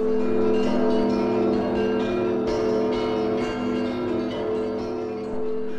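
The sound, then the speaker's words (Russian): Church bells in the city of Kyiv peal together in a dense, continuous ringing, with overlapping strikes and long humming tones that fill the whole stretch at a steady, fairly loud level. No voices are heard. “Город Киев встретил богатыря и забаву путятишну колокольным перезвоном.”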